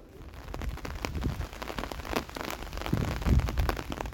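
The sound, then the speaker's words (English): Raindrops patter steadily on hats and shop surfaces, a dense hiss broken by many irregular taps and splashes over a low, rumbling undertone, with no voices. “The sky seems to bless us with a concert today, regular drops on hats and shops, so soothing to the ears”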